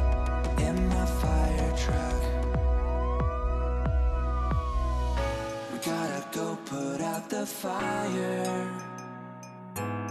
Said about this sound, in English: Don't forget to sound the siren. It goes wee wee oo, wee wee oo, wee wee oo, wee wee oo, wee wee oo, wee wee oo, wee wee oo, goes the fire truck.